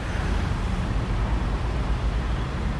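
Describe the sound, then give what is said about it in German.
A steady, unbroken roar of Autobahn (motorway) traffic in the Korporation Wollerau area, heavy low rumble with a broad hiss on top, holding an even loudness throughout with no voices. “Da dominieren nicht die Glocken der Rinder und das Rascheln der Wälder, sondern das Rauschen der Autobahn und der Lärm der Baumaschinen.”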